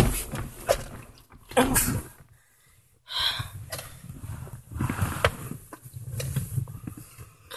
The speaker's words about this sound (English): God, these leather seats are so creaky.